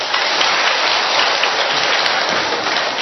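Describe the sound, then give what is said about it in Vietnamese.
An audience at a religious gathering applauds loudly for about three seconds, the many claps blending into a dense, steady hiss-like roar with no individual claps standing out and no voices heard. “Mời chúng con đem một tràng pháo tay thật lớn thưa anh chị em.”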